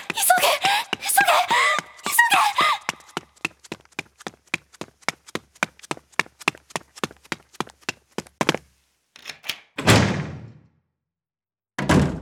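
A fast, steady run of sharp taps and clicks gives way to a rattle as a house door is unlocked with a key by trembling hands, then the door swings open with a scraping burst and is hurriedly banged shut with a final thud.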